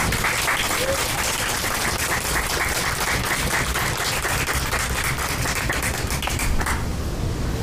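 An audience applauds steadily, a dense wash of many hands clapping at an even, loud level that thins out toward the end.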